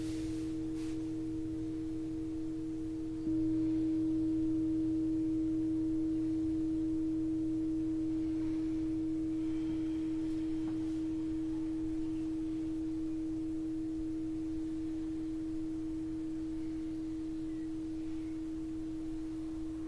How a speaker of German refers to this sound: Dafür machen wir diesen brummenden Ton, dieses Vibrieren.